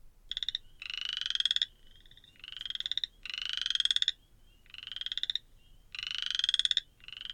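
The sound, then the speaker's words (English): A loud chorus of wood frogs and spring peepers: bursts of rapid, pulsing high-pitched calls repeat in a steady rhythm about every second and a half, with no voices. “But mainly, you're overwhelmed by the quacking of wood frogs and especially the yipping of spring peepers, which in chorus sound like sleigh bells.”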